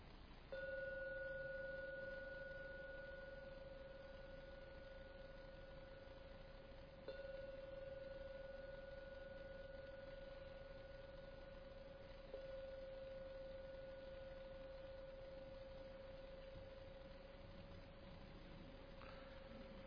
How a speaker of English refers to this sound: And now ring the gong 3 times to end the meditation.